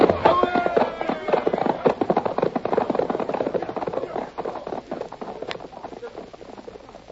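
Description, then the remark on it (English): Horses gallop with a rapid, dense drumming of hoofbeats that runs throughout and eases slightly toward the end, with brief vocal sounds near the start. “I ain't going to kill these horses.”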